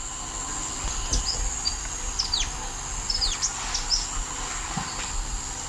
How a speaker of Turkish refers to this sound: Çok derinden geliyor sesi ama. Evet. Her şeyi andırıyor biraz. Evet evet. Bildiğimiz küçük kuş sesi.